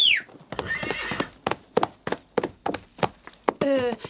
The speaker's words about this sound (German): Er ist das beste Pferd der Pushta. Wollt ihr ihn springen und galoppieren sehen?